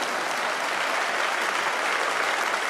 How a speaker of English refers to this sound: That wasn't even a smattering of applause. That was almost like mocking applause, right?